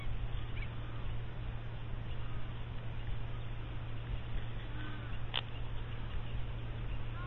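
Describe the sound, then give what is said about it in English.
A large flock of small birds passes overhead in the veld, splitting into two columns, one along a river and one slightly inland, with a few starlings and babblers among them: a dense, continuous wash of twittering and fluttering at a steady level. No one speaks, and a low hum sits underneath. “What's remarkable is just in front of me, they seem to split into two columns, one going along the river, one going a little bit inland.”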